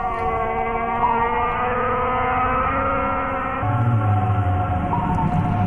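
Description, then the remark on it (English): Whale song: long, eerie moaning tones overlap and slowly bend in pitch, with a deeper groan joining near the end. The calls sound continuous and fairly loud, with no talking. “They communicate with each other in all sorts of ways, making clicks, grunts, thwops, snorts, and barks, and some haunting songs too”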